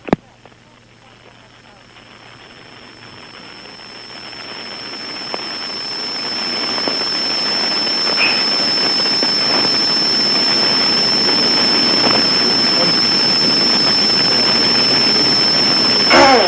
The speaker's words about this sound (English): Can you hold on just 1 second? I have a shower running. Hold on.